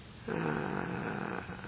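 A single deep, audible breath lasting about a second, with a rough, slightly raspy texture that swells quickly and then trails off. No one speaks.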